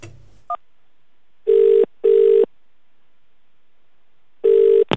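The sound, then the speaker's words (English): A telephone ringback tone: two short steady buzzing pulses in quick succession, a long pause, then the pair begins again, with a brief click at the start and end, as a radio presenter calls a listener live on air for the third time. “So I'll wait for the ringtone this time, and hopefully I'll be able to get her.”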